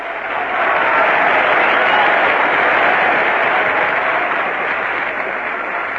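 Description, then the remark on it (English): A large audience claps steadily for several seconds, a dense, sustained wash of applause that swells quickly and holds strong before easing slightly toward the end. “Now, if they'd only applaud like that all the time.”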